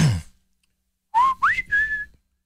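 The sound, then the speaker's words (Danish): A person whistles a short three-part call, a rising slide into two sustained tones, loud, the kind of whistle used to summon someone. A brief noisy burst comes before it. “Sådan fløjtede min far altid efter mig.”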